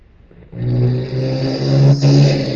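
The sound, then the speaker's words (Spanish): A motorcycle engine roars up outside and drones past, loud and steady with a slight rise in revs, with no voices over it. “Sí, pasó una moto, Sí.”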